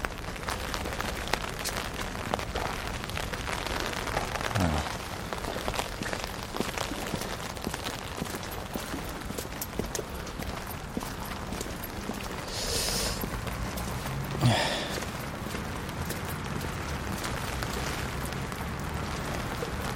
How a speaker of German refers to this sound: Was platscht denn da so? Das Wasser. Das ist einfach mal das Wasser, was hier so platscht. Das klingt irgendwie so, als würde das Wasser selber sich gerade in Whisky oder irgendwas reinkippen.